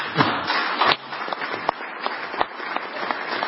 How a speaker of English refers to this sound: I'd like a few more hands clapping there. I don't know about you.